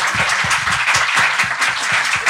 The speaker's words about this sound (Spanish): antes un aplauso para ustedes, la verdad. Sí, que nos gracias por venir.